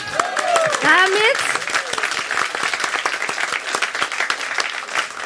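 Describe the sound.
Steady applause from a group as the winner of a quiz is announced, dense overlapping claps continuing throughout, with a few excited voices and a cheer rising over the clapping at the start.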